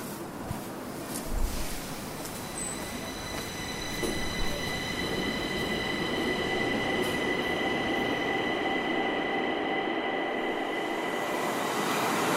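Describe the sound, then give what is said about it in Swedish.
A subway train travelling from Gamla stan to Rådmansgatan station rumbles steadily along the track, with sustained high-pitched wheel squeal and a few brief clunks early on, the noise continuous throughout, with no voices. “Tågresan till station Rådmansgatan från Gamla stan tar bara några minuter.”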